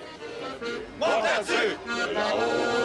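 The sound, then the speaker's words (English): A large crowd sings nostalgic songs together outdoors as the 79th Vendange wine festival in Montmartre, Paris, winds to a close, many voices blending into a loud, sustained chorus with rising and falling melodic lines that swell after a brief quieter start. “This crowd sings nostalgic songs as the 79th Vendange Festival winds to a close.”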